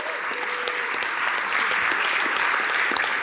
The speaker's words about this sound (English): All right, we got them all? We done graduated them. Why don't we give one more round of applause for the fifth class of Starter Studio.